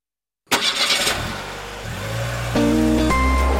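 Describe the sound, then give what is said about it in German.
After a moment of silence, an Audi's engine starts with a burst of noise, then settles into a steady hum that climbs in pitch as the car pulls away and accelerates, in a traffic jam at the Gubrisch Tunnel near Zurich. “Kollegen und Kolleginnen sind mit dem Audi ganz bewusst in einen Verkehrsstau gefahren”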